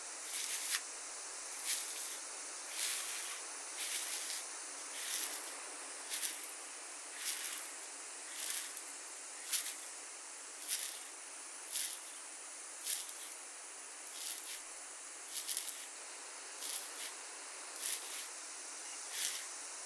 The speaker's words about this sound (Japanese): しばらくこのままマッサージを続けて頭皮の汚れを浮かせていきますね。